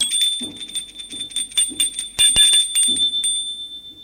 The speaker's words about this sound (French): Il sonne à sa porte.